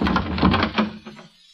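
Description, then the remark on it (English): The doorknob of a bolted door rattles and clatters in quick, uneven metallic jiggles for about a second, fairly loud, then trails off into quiet. “What are you doing with that doorknob?”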